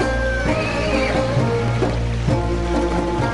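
A horse neighs loudly, a rising whinny that wavers and trails off over a few seconds, with a steady low background rumble beneath it.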